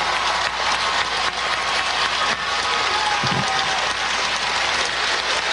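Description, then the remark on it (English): A crowd gives a standing ovation after a speaker repeatedly says 'I want less weapons': loud, dense applause that holds steady for several seconds without letup, a continuous roar of many hands clapping with no voices standing out. “Standing O from the crowd.”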